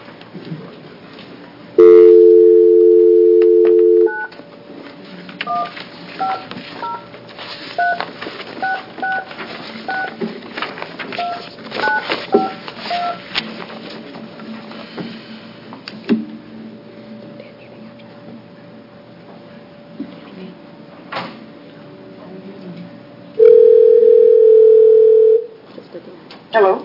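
A steady dial tone sounds, followed by a quick series of touch-tone keypad beeps, then another burst of dial tone near the end. This is a phone call being placed to a witness during a House Human Services Committee hearing. Faint background murmuring and noise continue throughout.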